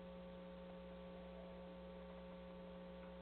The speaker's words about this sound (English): And I've got the air conditioning blasting.